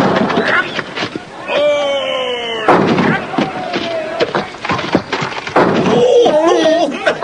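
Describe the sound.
An angry crowd drives a heavy battering ram against a wooden gate in a run of heavy, booming thuds at uneven intervals, splintering its bolts and breaking a beam, while voices shout and yell over the blows.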